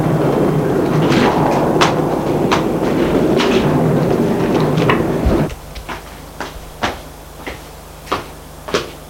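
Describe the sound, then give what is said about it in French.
An elevator riding to the first floor hums and rumbles steadily with occasional clicks, then stops abruptly; afterward a quiet low hum remains as sharp knocks and clatters sound roughly once a second. No one speaks. “Et il y va. À prendre l'ascenseur. Jusqu'au premier étage.”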